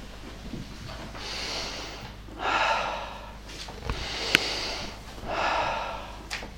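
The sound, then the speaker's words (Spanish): A person audibly imitates deep breathing: several long, airy inhales and exhales in a slow, steady rhythm, with no talking over them. “Respirando profundamente ahí en su huerto.”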